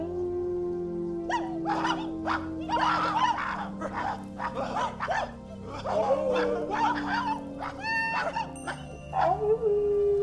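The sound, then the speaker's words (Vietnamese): Several dogs bark and yelp in rapid, overlapping bursts over a steady low drone, with drawn-out whining howls rising near the end. “Chỗ hàng ba trước cổng, đám đàn bà nhiều chuyện lúc sáng đang quỳ bằng hai đầu gối, ngửa cổ lên trời sủa như loài chó.”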